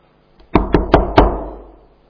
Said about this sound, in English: Well, I knocked.